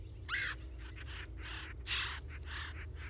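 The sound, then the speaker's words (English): A red-headed woodpecker gives a series of harsh, raspy calls, about six in quick succession, the first and one midway louder, over a low steady outdoor rumble. “No word on whether that red-headed woodpecker stayed through the winter or found his cupboards shockingly empty and decided to migrate south.”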